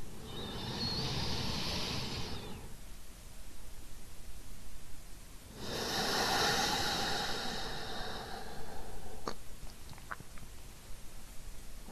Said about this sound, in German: Allein dieses bewusste Atmen bringt uns sofort in den Moment und raus aus dem bekannten Hustle-Modus und lässt uns mehr landen.